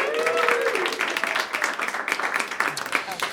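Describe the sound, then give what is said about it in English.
An audience breaks into steady applause, a dense patter of many hands clapping at a moderate level, with a brief cheering voice rising over it at the start. “Clap your hands”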